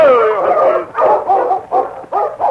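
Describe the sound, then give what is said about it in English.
A dog named Happy barks and yips excitedly in a quick series of about five or six loud bursts, some stretched into whiny, high-pitched yelps. “Dog is plumb foolish, Sergeant.”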